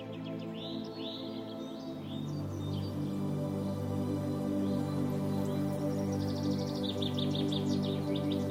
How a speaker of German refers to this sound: Höre das sanfte Summen der Bienen und das Zwitschern der Vögel.